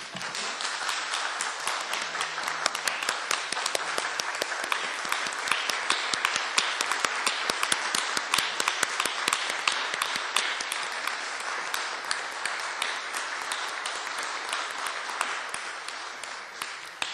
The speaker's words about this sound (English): and it be it further resolved that the Senate rise and express its appreciation with a round of applause.